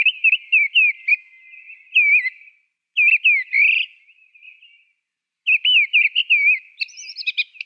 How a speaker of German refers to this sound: eine Art bei uns, die sieht der Singdrossel ähnlich, aber bei genauerer Betrachtung und auch der Gesang ist dann doch unterschiedlich. Und das ist die Misteldrossel. Richtig. Und ich würde sagen, bevor wir viel reden, werde ich sie mal abspielen.